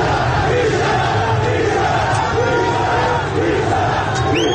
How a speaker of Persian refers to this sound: تصاویری هم از درگیری نیروهای امنیتی و پلیس با معترضان در اطراف باغ سپهسالار منتشر شده که فریاد بیشرف بیشرف از سوی معترضان شنیده می شود.